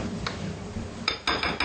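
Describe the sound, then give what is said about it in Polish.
Several bright glassy clinks, one lone tap followed by a quick cluster of three or four, as stemmed glasses knock together while being handed over and set down for a dessert, with no talking. “Teraz możesz podać mi kieliszki.”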